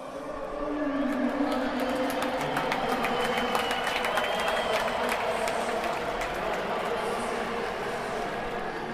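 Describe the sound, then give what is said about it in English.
Scattered clapping ripples through a spread-out outdoor crowd at the Stade Velodrome, Marseille, for Annemiek van Vleuten, the first rider to go off in stage two of La Course, at a steady, moderate level, with a constant murmur of voices and background bustle underneath. “that ripple of applause there was for the Annemiek van Vleuten, the first rider to go off in stage two of La Course.”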